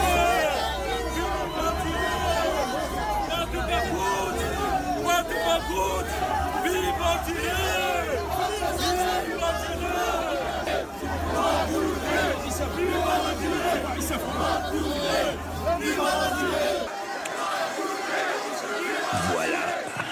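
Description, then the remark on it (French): A dense crowd shouts and yells continuously during a walkabout by President Emmanuel Macron in Algeria, many voices overlapping into a loud, agitated roar with bursts of chanting, fading abruptly near the end. “Et tout d'un coup, Emmanuel a voulu faire un bain de foule. Et le bain de foule s'est passé de manière assez bizarre.”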